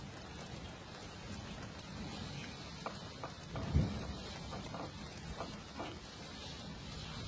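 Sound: rain falling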